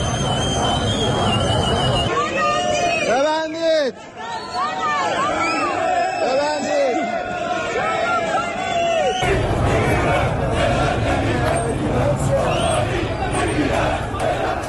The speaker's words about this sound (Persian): ویدیوهای منتشر شده در شبکه‌های اجتماعی نشان می‌دهد روز دوشنبه تجمعات اعتراضی در نقاط مختلفی از بازار و مناطق مرکزی تهران برپا شده و شعارهای اعتراضی سر داده شده است.